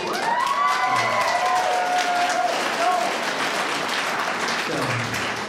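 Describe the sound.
An audience breaks into steady, loud applause that fills the whole stretch, with a few voices briefly cheering or calling out over the clapping.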